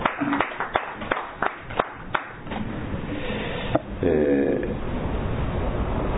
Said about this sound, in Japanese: 満4歳になりましたので盛大な拍手でお祝いします。